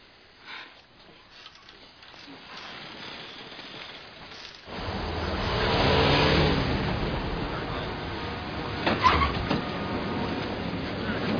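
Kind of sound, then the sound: vehicle, car engine revving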